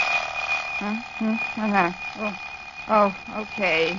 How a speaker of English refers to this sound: Okay. Darned alarm clock. I wish you'd waited for another minute. I was about to discover oil in my inkwell.